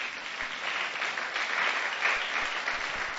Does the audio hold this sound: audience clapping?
yes